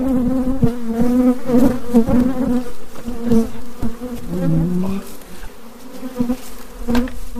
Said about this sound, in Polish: Tu ich jest masa, powiem pan. Pszczoła weszła mi we włosy i dostała się między głowę a pałąk trzymający słuchawki.